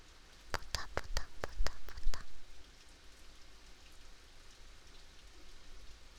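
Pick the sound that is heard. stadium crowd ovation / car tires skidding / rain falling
rain falling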